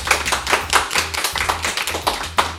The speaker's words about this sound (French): Et tu mérites des applaudissements.